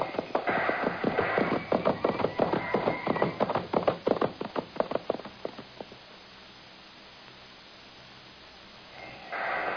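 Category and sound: animal, horse galloping hoofbeats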